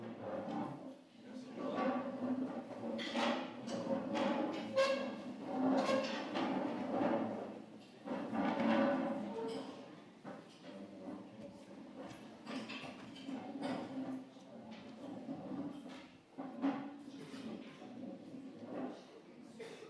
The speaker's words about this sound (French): On va mettre des petites gommes sous les chaises pour que ça fasse moins de bruit.